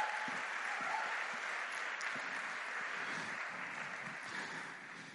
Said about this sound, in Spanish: Y dale un aplauso al Señor.